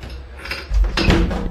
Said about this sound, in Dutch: Kijk, de deur gaat al open.